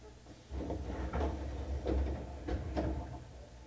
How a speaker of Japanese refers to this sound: 谷町4丁目、谷町4丁目、中央線は乗り換えです。左側の扉が開きます。ご注意ください。